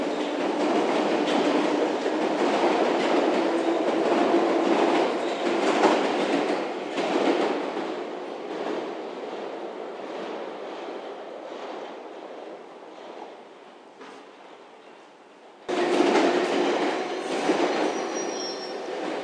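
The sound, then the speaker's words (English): An Ealing Broadway train rolls through a station, a loud continuous rumble with squealing, clattering wheels, easing off slightly before surging abruptly louder near the end. No one speaks. “Yep, another Ealing Broadway.”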